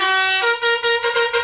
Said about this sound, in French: Attention. Allez les klaxons.